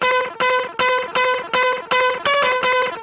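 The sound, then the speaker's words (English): Chirpy, chattery sampled notes, played by pressing and releasing a key very quickly, repeat in a quick, steady rhythm: about eight bright buzzy bursts with a gritty, distorted edge. Each burst is a cluster of several notes, starting sharply and fading slightly, with no voices. “Like that chirpy chattery sound is multiple notes.”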